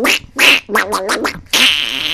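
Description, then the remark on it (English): A voice imitates the cartoon duck Donald Duck, making raspy, buzzy squawks in a quick run of short bursts that ends in a longer sputtering quack. It is loud. “It's like doing Donald Duck.”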